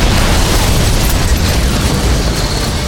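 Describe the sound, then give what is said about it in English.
A thrown satchel charge explodes, filling the whole stretch with a deep, roaring rumble and dense crackling noise, staying loud throughout with no voices. “the weird, underwatery feel of the explosion's concussion sapping his strength and wits.”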